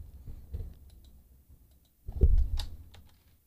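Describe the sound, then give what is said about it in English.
Someone types a song title on a computer keyboard, irregular soft clicks and taps with a brief burst of louder keystrokes toward the end. No one speaks. “I wonder if y'all can hear me typing.”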